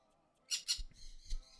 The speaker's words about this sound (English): Oh, the birds are talking to each other now.